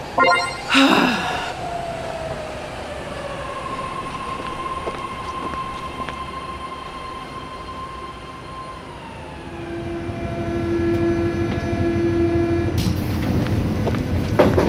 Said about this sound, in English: Please note that the arrival of the train is imminent.